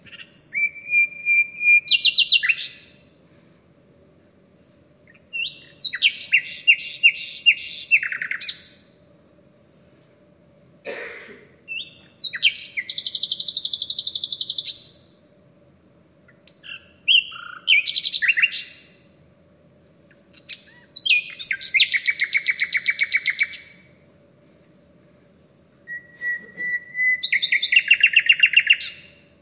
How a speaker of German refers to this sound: Ja, und dann haben wir hier noch die Nachtigall. Das ist der König der Singvögel, kommt in Eurasien vor, also bei uns.